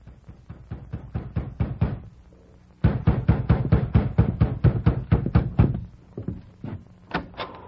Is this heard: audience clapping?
no